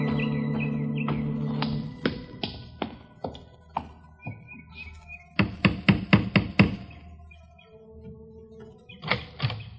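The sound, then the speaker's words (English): Sharp wooden knocks on a chalet door come in uneven groups, a few spaced raps, then a quick burst of several, then a couple more, with faint chirping and a low hum behind. “You knocked, didn't you?”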